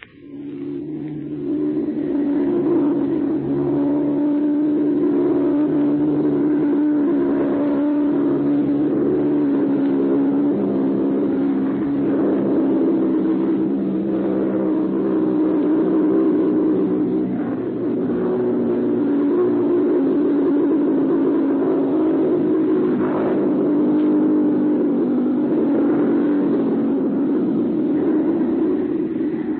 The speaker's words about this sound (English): From a point in southern England, immediately after this menace developed, mutual listeners heard the actual sound of a robot bomb in flight. Listen. Notice how the engine cuts off just before it explodes.